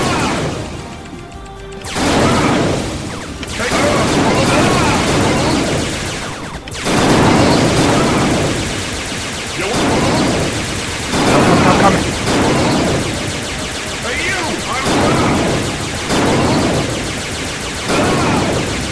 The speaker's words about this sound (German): One. Ein Schuss.